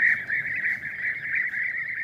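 Bee-eaters, birds about the size of a blackbird, calling in a steady stream of rolling, burry trills at a fairly high pitch, overlapping into an unbroken chorus that holds the same moderate loudness throughout, with no talking.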